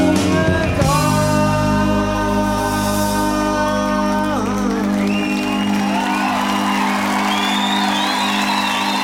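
A concert crowd cheers, whoops and applauds loudly and steadily, with rising shouts of excitement over a sustained, ringing chord from the band.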